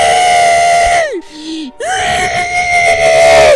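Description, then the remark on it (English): A voice lets out a loud, sustained primal scream roar, holding a strained wailing pitch, breaking into a brief falling groan, then launching into a second long, forceful yell. “Roar! I'm primal screaming!”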